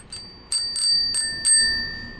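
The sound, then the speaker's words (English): A bicycle bell on a homemade tandem, built from an old exercise machine, rings rapidly several times in quick succession, bright metallic dings with a lingering shimmer, loud against a faint low background rumble. “And a mega loud bell.”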